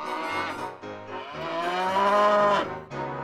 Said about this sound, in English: A cow! It's Moo Moo the cow!